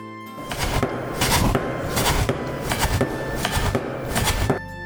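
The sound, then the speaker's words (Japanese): A large knife chops steadily through fragrant soba noodle dough made from Kurobe buckwheat flour on a wooden board, about ten crisp thuds in an even rhythm over a faint steady hum. “黒部さんのそば粉の香り高いそば生地が出来上がりました。さあ大きな包丁で切っていきます。”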